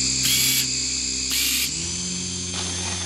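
A police camera drone filming during a police operation, heard in operation video played in a Stuttgart courtroom, buzzes steadily with a loud, layered motor whine. Two brief hissing surges break in early, and the pitch steps down partway through as the rotors change speed.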